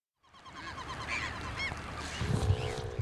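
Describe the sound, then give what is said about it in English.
A noisy chorus of many birds circling above the Chilkoot River, 9 miles outside Haines, Alaska, under a dark sky spitting rain; overlapping honks and harsh cries rising and falling continuously over a low, steady rushing background that swells louder toward the end. “The sky is dark and spitting rain, and a cacophony of birds circle above the water.”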